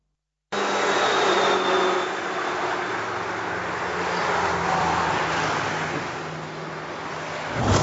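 A continuous, loud roar of road traffic as a car speeds through an intersection, breaking the traffic signal and narrowly missing two other vehicles; engine and tires rush by, swelling slightly midway, then a sharper burst of noise right at the end. No one speaks.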